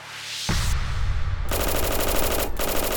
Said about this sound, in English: The men the cops had led into the building opened fire, spraying bullets from their Thompson submachine guns. All seven men were cut down, their bodies nearly sliced in half by the ceaseless barrage of bullets.